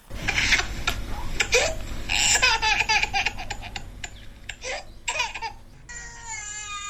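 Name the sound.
young child crying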